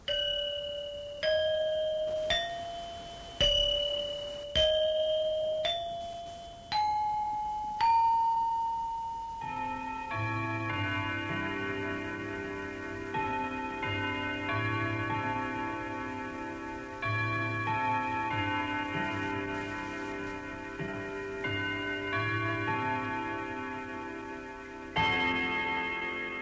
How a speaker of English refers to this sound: That Westminster chime harks back to the Dutch colonial days.